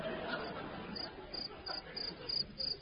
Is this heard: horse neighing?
no